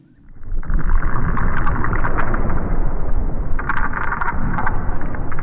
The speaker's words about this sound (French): Écoutez, c'est le souffle de l'Arctique tel qu'on le fantasmait il y a 100 ans. Un désert blanc, un silence de mort rompu par les bruits de pas et les bois de traîneaux.